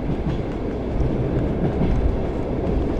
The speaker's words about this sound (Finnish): Kiskojen kolke, joka nyt on, mä edelleenkin mielletään hyvin niin kuin ikoniseksi jotenkin tälle rautatiematkustamiselle, niin on tosiasiassa vaan hyvin harvalla rataosalla enää koettavissa.